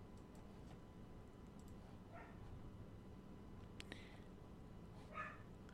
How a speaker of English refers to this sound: My apologies, my dog is barking